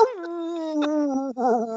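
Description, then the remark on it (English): A person does a drawn-out wolf howl with their voice, a steady sustained tone lasting nearly two seconds that ends in a brief wavering warble, clear. “I thought we were doing a wolf.”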